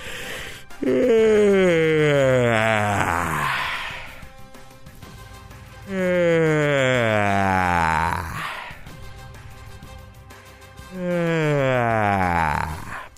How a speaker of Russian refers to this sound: Зеваем. Да-да-да, зеваем, господа. Кстати, можно и даже нужно зевать со звуком. Примерно так.